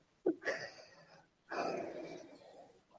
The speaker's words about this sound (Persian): ولی کلن من از پله ها اومدم بالا که نفس نفس میزنم، ببخشید.